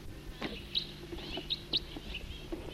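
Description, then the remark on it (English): A few short, high-pitched flight calls from a bird that had been singing come in quick, irregular bursts, sharp calls standing out over a soft background hum with a low steady tone underneath. “That was a flight call of the bird that was singing.”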